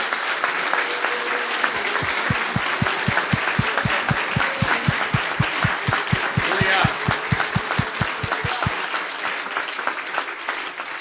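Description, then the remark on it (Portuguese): An audience applauds loudly and steadily to praise the Lord, the crowd's clapping falling into a strong unified rhythm of sharp beats for several seconds amid a dense wash of scattered claps and a few voices. “Glória a Jesus, vamos aplaudir o Senhor.”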